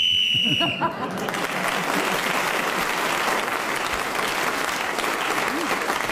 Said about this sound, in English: But you were speaking as the whistle went, so you gained an extra point, and you're now in the lead at the end of that round.